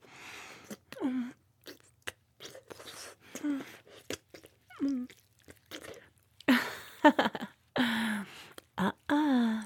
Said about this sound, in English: Oh, you sound so cute when you whimper.